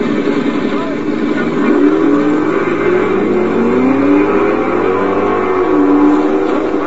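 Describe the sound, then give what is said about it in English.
An electric car accelerates at a drag racing track with a rising motor whine that sweeps upward in pitch several times, steady and fairly loud over a broad background rumble. “Tonight, they're off to that mecca of rev heads, the drag racing track.”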